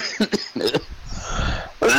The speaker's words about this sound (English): He's all dying. Coughing up a lung.